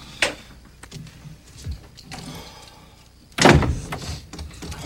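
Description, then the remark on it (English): A hotel room door opens as Charles enters the room: a sharp click of the latch, a few soft rattles and shuffles, then a louder, rougher swoosh and thump as it swings, with no one speaking. “At the hotel, Charles enters the room.”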